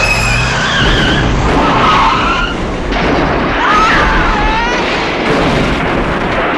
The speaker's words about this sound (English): I wish we had a more graphic death for John Travolta, and we know that the car flipped about 50 times. The car exploded.